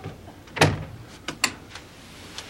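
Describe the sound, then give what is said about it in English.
A door opens late at night with a heavy thump from the latch, followed by a few sharp clicks and rattles of handle and hinge, with no voices. “Open the door”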